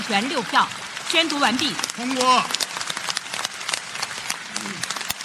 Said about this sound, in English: The orderly applause inside the vast National People's Congress is a stark contrast to the months of prolonged protest we've seen on the streets of Hong Kong.